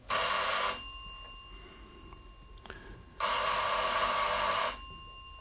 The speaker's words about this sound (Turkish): Burası olmalı şef. Başka daire yok giriş katında. Evet, zil çal bakalım.